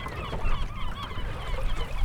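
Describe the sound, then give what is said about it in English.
A crowd of gulls at a gull colony by John's Island, off Mount Desert Island, heard while sailing past, calls at once, their harsh overlapping cries forming a constant raucous chorus over a low rumble of wind and water, with no one speaking. “But it's a gull colony, so you can hear the gulls.”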